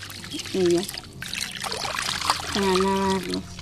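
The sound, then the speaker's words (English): Water gushes and splashes steadily from a hand-pumped well at a house outside Mexico City where water is scarce, fairly loud, with two short squealing tones cutting through the rush of the pour. “Water was scarce. They showed me how they have to pump it from a well.”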